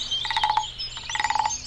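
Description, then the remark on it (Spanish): A toad croaks in two short bursts of rapid, pulsing trills, fairly loud, with a brief pause between them and no voices. “No, sapo. No. No tiene por qué llorar.”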